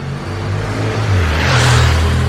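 A new motorcycle drones past on the street that runs around a park, its steady low rumble swelling louder as it draws near and roars by, with no voices.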